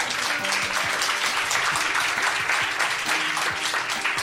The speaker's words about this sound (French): Applaudissements.